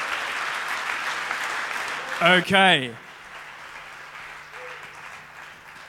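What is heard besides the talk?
audience applause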